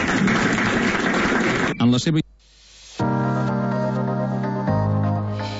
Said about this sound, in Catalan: El primer que ha sigut fruit d'un treball amb equip, i el primer, per tant, que hem de dir és felicitar a tot l'equip que l'ha fet possible, donant-los les gràcies, i per tant crec que tots els que som aquí els hem de fer un aplaudiment.